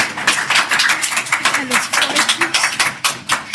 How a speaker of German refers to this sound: Hey, und damit habt ihr 2-1 gegen mich gewonnen. Mit Applaus.